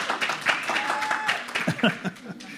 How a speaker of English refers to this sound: So, you guys were weak on the claps. But hey, that's all right, that's all right.